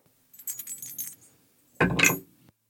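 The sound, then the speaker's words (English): Dice rattle lightly for about a second, then after a short pause clatter loudly across a hard surface in one burst of tumbling clicks, rolled for a charisma check in a game. No one speaks. “I would like to roll perception.”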